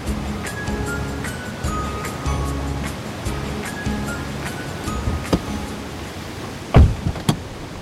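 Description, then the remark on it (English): A steady, rushing wash of ocean surf at Ocean Beach in San Francisco, near the Sutro Baths, with a low humming tone underneath and a couple of sharp knocks near the end; no one speaks. “So we're near Ocean Beach in San Francisco now. We're looking out at the Sutro Baths, which were, I believe, in the early 20th century, late 19th century, kind of an elegant public bath overlooking the ocean.”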